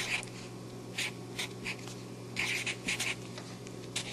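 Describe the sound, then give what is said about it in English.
Paper shifts and rustles in a series of short, scratchy bursts, with some quieter pauses between them. A low steady hum sits underneath, and no one speaks. “Whoa. Paper moving.”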